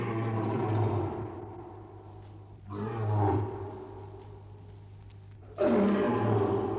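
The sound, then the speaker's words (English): A lion roars in deep, rumbling bursts, three heavy calls in a row, loud, with a low steady hum underneath and no voices. “The lion says, I am king and I reign.”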